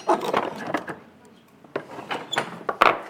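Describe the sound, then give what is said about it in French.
An old medieval castle-style wooden door opens, with a series of short woody knocks and creaks spread over a few seconds, ending in a louder clunk. “Alors quand tu rentres, t'avais une porte, une vieille porte en bois style château médiéval.”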